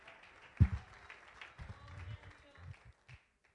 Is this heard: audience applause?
yes